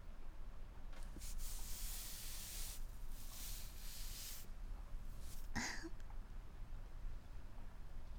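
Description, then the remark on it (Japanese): Steady, soft rain hiss fills the background, swelling into brighter, louder bursts of spraying noise twice, with a brief sliding, whistling sound near the end. “雨の音聞きながら”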